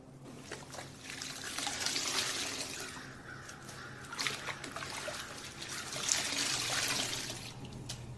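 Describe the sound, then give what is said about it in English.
Water trickles and splashes in two longer swells with small drips and clicks between them, over a low steady hum, as water is used for a makeshift bath and to clean injuries. Nobody speaks. “No need in wasting this water. Might as well take me a poor man's bath and clean up his damn injuries.”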